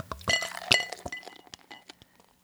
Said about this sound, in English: Well, I'm going to open this bottle because this type of chat really needs a glass of cider with it.